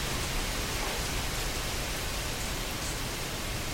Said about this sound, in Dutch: De regen die gaat. Je kunt zeggen hier intern, nou ik hoop dat het straks weer opklaart. Buiten allemaal nat, hier gelukkig droog.